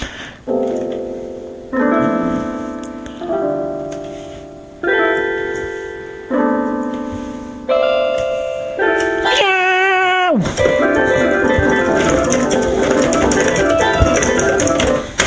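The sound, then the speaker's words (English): Toy electronic keyboard music representing a mouse being caught by a cat, played on a fake keyboard rather than a proper piano: bright synthetic chords repeat in an even, plodding rhythm, then a sharp swooping pitch slide leads into a loud, busy flurry of rapid jangling notes. “I just represented a mouse being caught by a cat on a fake keyboard.”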